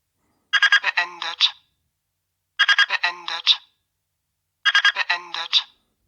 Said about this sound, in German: Ja, und jetzt weiß man also, dass die voreingestellte Temperatur erreicht wurde. Dieser Alarm geht eine halbe Minute. Man kann ihn aber auch ganz einfach abschalten, indem man eine Taste drückt.